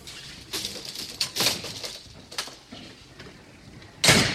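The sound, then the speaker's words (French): A building door of apartment block 10 in Les Pétrelles opens with a few scraping, rattling bursts as someone leaves the building, then swings shut with a louder clunk at the end. No talking, over faint background hiss. “Je sors de mon bloc 10.”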